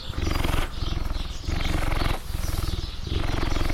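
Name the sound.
cheetah purring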